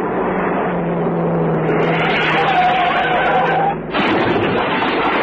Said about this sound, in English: That car's coming down the road too fast.